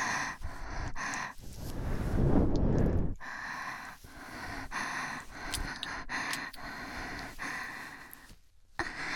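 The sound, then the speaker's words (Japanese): Breath blown right against the microphone: soft, airy exhales punctuated by one long, loud, rumbling gust in the middle, with no talking. “私の吐息吹きかけてあげる。”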